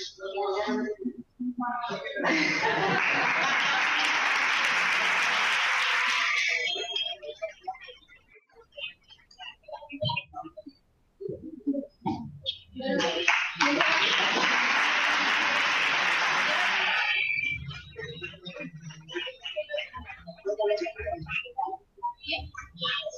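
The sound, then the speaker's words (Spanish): Two loud bursts of audience applause at a prize-giving, each lasting several seconds of dense, steady clapping, separated by a stretch of a person talking into a microphone who announces the first prize, going to an entrant from Colegio Inmaculado, with more talk after the second round. “Un aplauso.”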